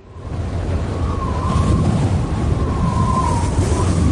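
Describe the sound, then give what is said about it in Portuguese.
Strong gusts of wind from storm Ciarán roar loudly and steadily in the A Mariña area of Galicia, a dense low rumble buffeting the microphone with a faint whistling tone rising and falling through it. No voices are heard. “O peor foron os refachos de vento, especialmente na comarca da Mariña.”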